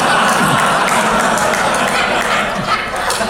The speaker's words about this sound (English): I'm always shocked when we clap when somebody gets engaged.